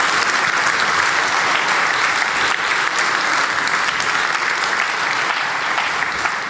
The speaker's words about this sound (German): Genau, Applaus für die Chaospost.